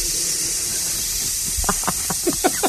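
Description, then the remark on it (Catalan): A person imitates a snake with a long, steady hiss that runs the whole time, joined near the end by a few short voiced bursts, like chuckles, over the hiss. “No sé, la serp és senzillíssim de fer.”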